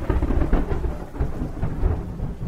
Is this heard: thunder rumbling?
yes